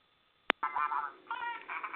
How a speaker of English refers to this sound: I'm sorry, that makes sense. I got distracted. My phone is ringing, and I thought I had it turned off.